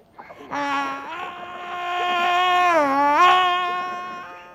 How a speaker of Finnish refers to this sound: Joku huusi. Selkäpiitäni karmii vieläkin. Mutta kuka? Kuka voi huutaa tuolla tavalla?